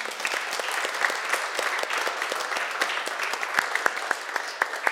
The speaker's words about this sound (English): Give Jesus a hand clap.